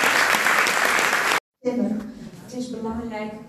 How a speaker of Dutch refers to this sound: Geef ze een heel hartelijk applaus.